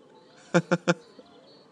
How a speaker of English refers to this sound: Actually, the birds are being too bloody noisy.